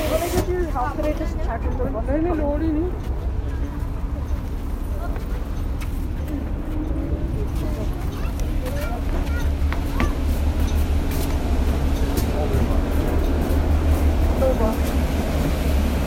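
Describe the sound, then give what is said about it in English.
A steady, heavy low rumble of a bus engine and road noise fills the cabin throughout, loud and constant, with muffled voices talking faintly underneath. “Yeah, our bus is good.”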